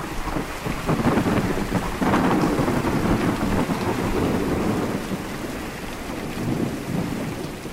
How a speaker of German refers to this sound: Es sind die Wege, die ein Gewitter an einem schwülen Julinachmittag nimmt. Zu klein sind dafür die Gewitterzellen. Zu schnell entstehen sie, bevor sie sich auch schon entladen.